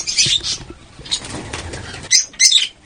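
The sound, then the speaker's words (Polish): Colorful parakeets chirp in bright, high bursts while wings flutter and flap, with a short quieter stretch of rustling in the middle before more sharp chirps close the moment. “To zanim jeszcze przejdziemy do najmłodszych, to ja jeszcze oddam głos tym fruwającym, których Państwo być może jeszcze nie słyszeli, ale warto tutaj też zajrzeć, bo piękne, kolorowe ptaki, papuszki są do odwiedzenia. Oto one.”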